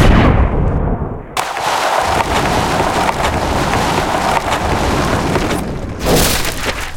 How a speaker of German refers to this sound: Der vierte Schuss, ich habe es, Black Hawk Down. Oh Gott, er ist komplett explodiert.